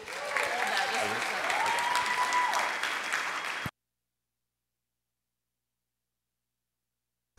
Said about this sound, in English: So please give a big round of applause for Pastor Taylor.